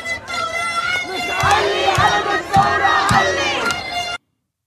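crowd of protesters chanting

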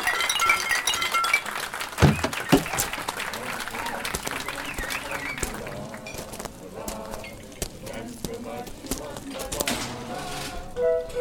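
glasses clinking

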